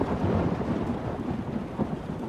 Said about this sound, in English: Just until the rain stops.